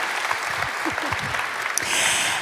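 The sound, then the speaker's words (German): A crowd applauds steadily for a couple of seconds for a group of people just introduced, dense overlapping claps at moderate volume, swelling slightly toward the end. “So, genau, lass uns denen allen mal einen Applaus geben.”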